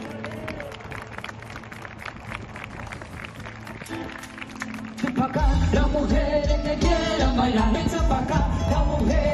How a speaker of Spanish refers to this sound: Bueno, esos aplausos que has escuchado son de los vecinos de Noia. La música en directo es de la orquesta …